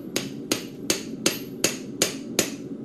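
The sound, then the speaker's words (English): In a small garage in Colorado Springs, a hammer pounds a glowing hot piece of steel cut from a gun barrel flat on an anvil to make a garden tool, in seven sharp, evenly spaced metallic strikes, each with a bright ringing tail, over a low steady rumble and no talking. “Using a pair of tongs, he places it onto an anvil and pounds it flat.”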